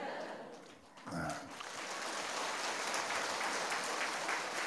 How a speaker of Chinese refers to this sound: 鼓掌的人基本上都不是神经病。我发现有六个人没鼓掌，那是神经病。